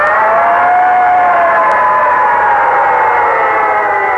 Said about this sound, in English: He looked out the window, and there, roaring down the street, was a great big red fire engine.